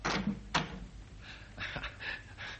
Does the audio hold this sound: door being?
yes